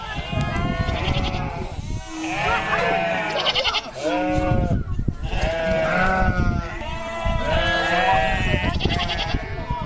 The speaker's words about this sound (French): Le bruit des chèvres et des enfants.